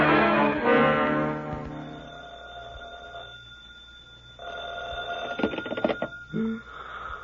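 A telephone rings in loud, buzzy bursts, with one long ring at the start and another a moment later, followed by a few clicks and knocks. No one speaks.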